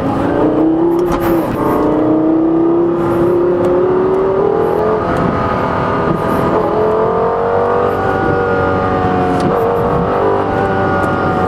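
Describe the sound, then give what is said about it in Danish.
A sports car engine revs and pulls away out of the pit lane at about 2,500 rpm on a track between Malmö and Helsingborg, Sweden; its loud, steady harmonic drone rises gradually in pitch as the car accelerates, continuous throughout with no talking. “Men er det ikke en fantastisk motorlyd?”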